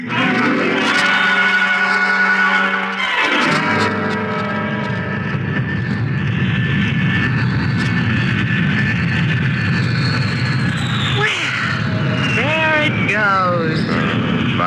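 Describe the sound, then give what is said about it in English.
A propeller airplane roars overhead, its engine starting with a strong droning hum and settling into a steady, loud rumble that carries on for the whole stretch. “I had to see that plane in the sky before I'd leave.”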